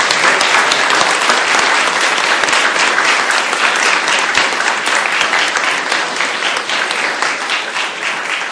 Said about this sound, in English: So I just want to get a round of applause to thank these two extraordinary individuals.